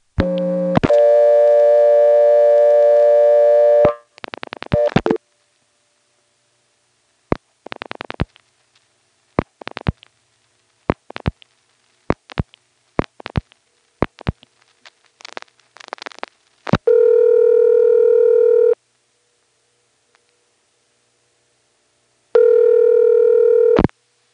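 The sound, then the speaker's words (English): A steady buzzing dial tone gives way to groups of sharp clicks as digits are dialed on a telephone line, with faint NX1 rego-type exchange crosstalk. Two long ringback tones separated by a pause follow, on a call to a working 663 number for the time service. “But if you listen while you're dialing digits, you can very often hear typical NX1 rego-type crosstalk, whether you're dialing 1, 6, or 8.”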